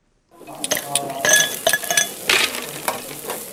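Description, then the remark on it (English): Ice cubes clink into a glass to cool a drink several times in quick, irregular succession, each hit bright and ringing, over a soft crackling hiss as meat sizzles on a barbecue, on a hot Sunday afternoon in a middle-class suburb north of Cape Town. “Meat sizzles on the barbecue, ice hits a glass to cool a drink.”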